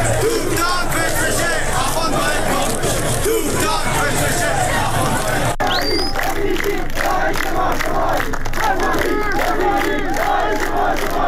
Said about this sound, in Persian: معترضان در زاهدان در 16 جمعه اعتراضات پس از نماز جمعه راهپیمایی کردند و شعارهای ضد حکومتی از جمله حکومت بچه‌کش نمی‌خوایم، سپاهی بسیجی داعش ما شمایی و تهرانی با غیرت حمایت حمایت سر دادند.